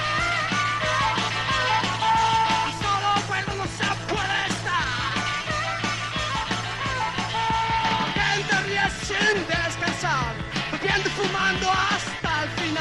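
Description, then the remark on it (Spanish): A loud rock song composed in 1978 plays without pause, with a steady, thumping bass line, dense guitars and a strained, shouted-sounding vocal riding over the full band. “Bueno, seguro que esta canción te trae muchos recuerdos”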